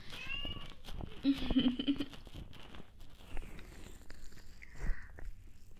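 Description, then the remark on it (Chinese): A voice imitates a cat, giving a few drawn-out, whiny meows at moderate volume, with soft rustling and crackly noises in between. “学猫猫在吹”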